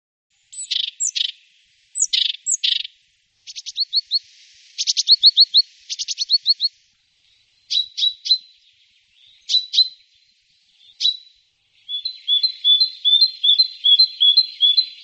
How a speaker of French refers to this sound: C'est la mésange bleue, bien sûr, je la reconnais, sa phrase. Elle est très belle avec son plumage bleuté et jaune.